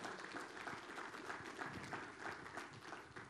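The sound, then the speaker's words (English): A church audience claps in praise of the Lord, a dense, steady wash of many hands applauding together, loud and continuous throughout with no voices rising above it. “Give the Lord a clap of praise in this house.”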